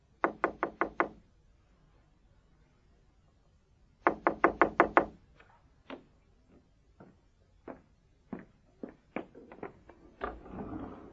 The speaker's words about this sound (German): Vor Nabots Haus bleibt er stehen. Er klopft an die Tür.